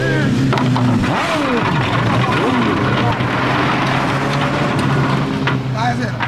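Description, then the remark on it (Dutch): Loud, steady car engines rumble and rev at a street race on the Piscadera road in the Charo district, behind Mundo Nobel, on a Sunday afternoon at 2 o'clock, pitch sliding up and down between bursts, with voices of a crowd talking underneath throughout. “Ja, dat is een goede racebaan.”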